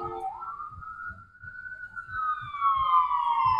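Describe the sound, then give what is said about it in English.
A fire engine siren wails loudly in one long sweeping tone, rising at first and then gliding slowly lower, over a low rumbling, thumping background. “sorry, the fire engine's coming down.”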